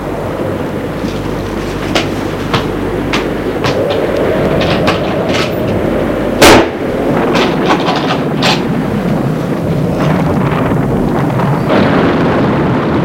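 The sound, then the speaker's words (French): Thunder rumbles low and steady throughout, with scattered crackling bursts and one sharp, loud clap about halfway through, then the rolling continues. No voices. “Il est tout courbaturé, encore mal à la tête, voit les éclairs à travers les fentes du bois.”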